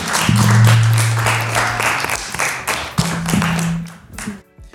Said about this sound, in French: Merci beaucoup à vous trois pour ce passage. Vous allez pouvoir retourner dans le plateau. On peut les applaudir une dernière fois avant d'accueillir les prochains.